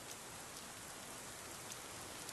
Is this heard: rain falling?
yes